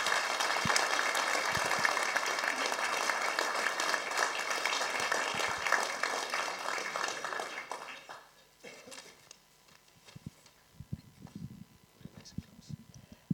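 A crowd applauds loudly with dense, sustained clapping for about eight seconds, then it fades out, leaving scattered claps, shuffling and faint movement in a quieter room.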